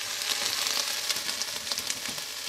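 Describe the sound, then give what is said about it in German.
Onions sizzling steadily in a hot pan as they sauté until glassy, not browned, a dense, continuous crackle with tiny pops scattered throughout, with no voices. “So, also die Zwiebeln glasig nehme ich mal an, ne? Nicht braun werden lassen.”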